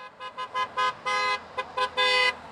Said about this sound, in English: In front of the Boeing facility in St. Charles, members of IAM District 837 have been striking since midnight. Some passing cars honk their horns in support.